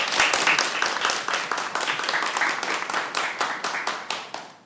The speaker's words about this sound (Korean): 선생님 좋은 말씀 박수 부탁드릴게요.